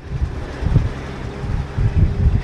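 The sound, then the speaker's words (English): Strong wind roars and buffets in uneven gusts for a couple of seconds, a loud, rumbling rush with no voices, whipping snow into drifts during a snowstorm outside a truck stop off Interstate 57 near Champaign. “Outside the Road Ranger truck stop off I-57, the wind whipped snow into drifts that threatened to choke off Market Street leading into Champaign.”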